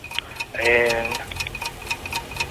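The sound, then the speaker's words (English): A 60-second quiz countdown clock ticks steadily, with sharp, evenly spaced ticks a few times per second, clear; a brief voice-like tone overlaps the ticking early on. “60 seconds on the clock, and your time starts now.”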